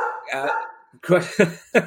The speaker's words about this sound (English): what's upset the dog? Oh, it's postman.